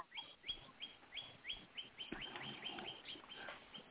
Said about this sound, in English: And there's the bird, a cardinal, deciding to concur wholeheartedly with you. Oh, isn't that interesting that it happens to be a cardinal, because I have a special relationship with cardinals. Well, you got one chiming in on your call right now.